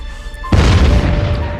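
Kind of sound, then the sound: sound effect, explosion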